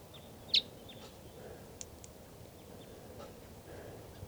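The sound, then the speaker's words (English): A wild bird in the trees beside a truck gives sharp, high chirping calls outdoors, with one loud note near the start, another at the end, and a few fainter chirps between over a low background rumble. “So recording, that wild bird is still here. I think it's a lone female.”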